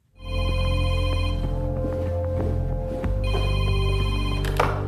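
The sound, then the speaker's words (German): A telephone rings loudly and steadily for several seconds, a sustained electronic ringing tone over a low humming background, with no one speaking, in a film scene of a phone call between Angela Merkel and her office head Beate Baumann. “Das Telefonat zwischen Merkel und ihrer Büroleiterin Beate Baumann zum Beispiel.”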